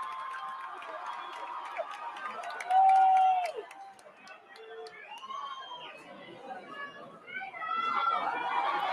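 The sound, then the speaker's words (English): A lively crowd chatters and cheers throughout, with a man's loud, sustained yell cutting through near the middle before the noisy crowd swells again toward the end. “that's the first time I heard a guy yelling. Usually it's the women that are cheering it on like this.”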